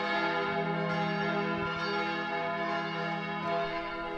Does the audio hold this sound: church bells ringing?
yes